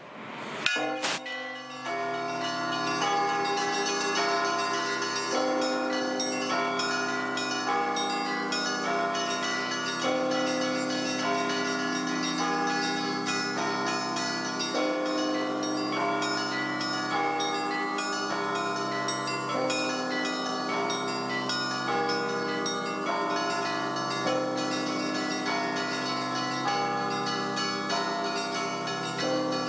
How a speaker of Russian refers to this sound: Однако даже эти скорбные обстоятельства не испортили нам пасхального настроения и не отбили желание подняться на колокольню самого высокого в городе храма и позвонить в колокола.